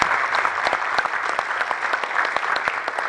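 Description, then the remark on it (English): An audience applauds steadily for a few seconds for a list of team players being recognized, a dense patter of many hands clapping at a fairly loud, even level with no voices over it. “Just give those guys a round of applause.”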